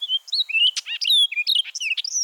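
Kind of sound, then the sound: bird, orchard oriole song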